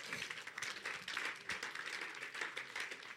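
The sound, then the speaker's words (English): A crowd applauds steadily for the Lord Jesus, many hands clapping in a dense, continuous patter with no voices standing out, sustained at an even level for a few seconds. “Clap for the Lord Jesus.”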